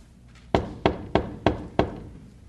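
Five firm knocks on a heavy wicket gate, evenly spaced, each a solid thud with a short ring-off, against a quiet background with no voices.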